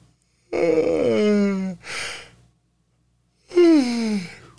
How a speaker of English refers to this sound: No, I really yawned.